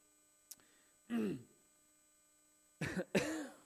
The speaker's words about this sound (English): Sorry. Got myself a little bit of a cough.